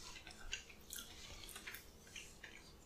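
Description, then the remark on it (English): Soft chewing of a mouthful of about seven chocolate macarons, with moist mouth clicks and smacks coming every half second or so, quiet and without any talking. “And now you're chewing.”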